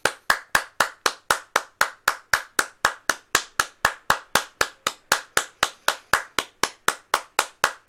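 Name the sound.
hand clapping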